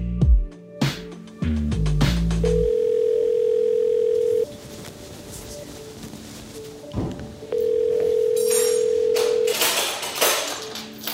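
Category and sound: signal or alarm, telephone dial tone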